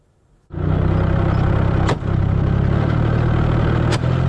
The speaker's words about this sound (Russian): Это кадры работы машины дистанционного минирования российской армии. Так устанавливают заграждения на пути подразделений ВСУ.